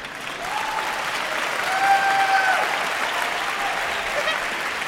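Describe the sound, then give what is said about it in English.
An audience applauds steadily for several seconds, a dense wash of clapping that swells slightly in the middle, with a faint high whistle-like tone briefly riding over it. “If you want to applaud, go ahead.”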